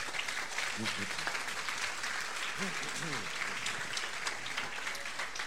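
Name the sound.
audience applauding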